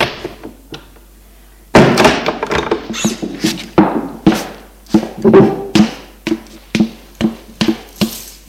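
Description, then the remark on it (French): A man enters his home: the apartment door bangs shut loudly after a quiet moment, followed by a steady run of sharp thuds and clunks, like someone moving around. No one speaks. “Il entre chez lui.”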